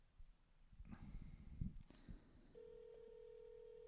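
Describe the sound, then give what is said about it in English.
A burst of rustling and handling noise gives way to a steady, droning ringback tone of an outgoing phone call to a guest, coming through clearly at moderate volume with no one talking. “It's ringing.”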